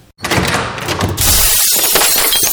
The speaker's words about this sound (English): Oh, sorry, guys. Sorry about knocking over those bottles. I didn't see them.